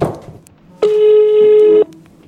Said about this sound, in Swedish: Okej, okay, nu ringer jag min mamma.